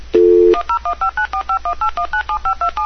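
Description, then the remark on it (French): A steady dial tone gives way to a quick run of about fourteen telephone keypad dialing beeps, evenly spaced and clear, with no talking. “Si je fais composer dans ce micro.”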